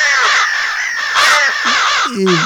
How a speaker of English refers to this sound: More crow. Oh, more crow.